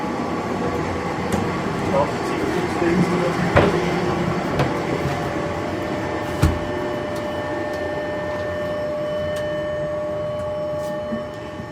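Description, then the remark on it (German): An older tram model powering up around 4 a.m., its converters starting up so the machine runs in and heats before the first trams leave at 5 a.m., with a steady electrical hum and high tonal whine, broken by a couple of sharp clunks partway through. “Die muss ein bisschen vorlaufen, die Umrichter müssen anlaufen.”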